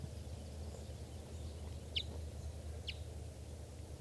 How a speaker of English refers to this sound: This bird, I think, is a male. And there's another bird around here chittering. Which looks like a female. I'm not sure.